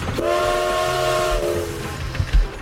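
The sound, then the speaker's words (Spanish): A train departing from a station platform: a loud, steady steam whistle holds for over a second above a low rumbling churn, then fades into a few heavy clanks. No one speaks. “Justo cuando el tren partía, el inspector Fix avanzaba por el andén, corriendo hacia ellos.”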